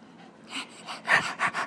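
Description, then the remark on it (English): A dog named Bree pants rapidly, a quick series of breathy, rhythmic huffs that grow slightly louder toward the end, with no talking over them. “You know, there's, like, water, you know, dog. You can drink it.”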